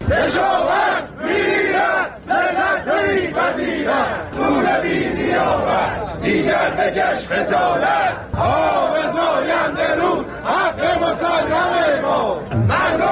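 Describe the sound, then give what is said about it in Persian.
A large crowd of farmers from east and west Isfahan shouts and chants in loud, continuous waves, with rhythmic rising cries and brief dips between bursts, at a Saturday rally in the town of Chadegan, Iran, protesting the handover of their water rights from the Zayandeh Rud and the river's drying up. “بنابر گزارش‌های منتشر شده در شبکه‌های اجتماعی، کشاورزان شرق و غرب اصفهان در اعتراض به واگذاری حقابه خود از زاینده رود و خشکی این رودخانه روز شنبه در شهر چادگان تجمع کردند.”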